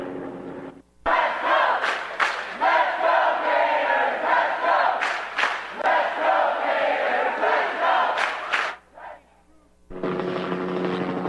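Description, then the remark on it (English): A large crowd in an auditorium at the University of Florida boos Richard Spencer and chants Black Lives Matter, a loud, sustained roar for about nine seconds with sharp bursts of yelling or clapping, then abruptly cuts away. “Spencer was booed, as were the two men who tried to introduce him.”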